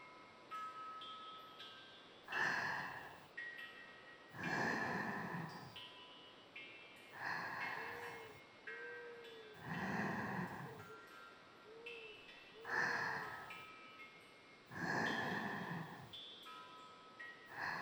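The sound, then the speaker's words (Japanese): Gentle water sounds, a soft sloshing or pouring whoosh that swells and fades in a steady rhythm about every two seconds, with quiet pauses between and no talking. “さあ、迷いさんをぎゅーってしながら、心地よい水の音に浸っちゃってください。”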